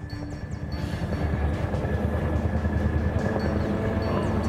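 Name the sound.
helicopter flying overhead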